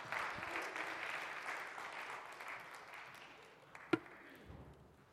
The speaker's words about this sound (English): Y'all give them a round of applause.